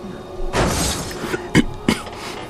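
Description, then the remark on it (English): A person coughs: a harsh, drawn-out first cough followed by two short, sharp coughs in quick succession, over a faint steady background hum. “Someone just coughed.”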